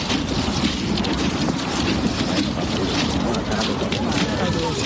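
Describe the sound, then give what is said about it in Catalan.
A steady, dense crunch of the footsteps of many affected train passengers walking in single file along railway tracks, accompanied toward Bellvitge station. No single step stands out, and faint murmuring voices are mixed into the shuffle throughout. “El so dels passos dels passatgers afectats caminant per les vies.”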